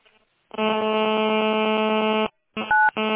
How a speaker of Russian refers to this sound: Что у вас там? У вас там кнопки вы нажимаете или что? Постоянно что-то пищит.